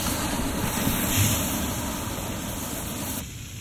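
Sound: fire extinguisher spraying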